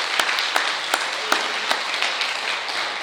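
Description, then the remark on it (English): A crowd applauds with steady, dense hand clapping, a continuous bright wash of claps with a few sharper individual claps standing out, sustained at an even loudness throughout. “So let's give him one more hand clap.”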